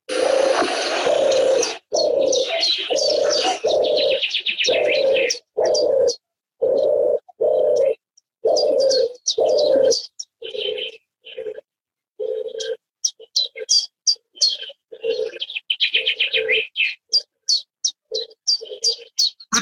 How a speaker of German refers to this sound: Ich möchte sie jetzt einmal anspielen, ja. Die Turteltaube. Hier kommt sie.